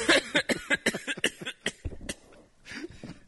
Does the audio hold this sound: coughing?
yes